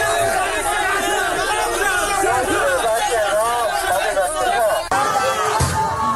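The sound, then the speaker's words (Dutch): A loud, chaotic crowd of hundreds of factory workers brawling with security guards at a factory in China: many voices shouting and clamoring at once, a continuous roar of agitated yelling with overlapping cries, steady throughout with a brief dip near the end. “Want honderden medewerkers raakten slaags met de beveiligers. Blijkt uit opnames die volgens Bloomberg op Chinese social media zijn gezet en dan horen we dit.”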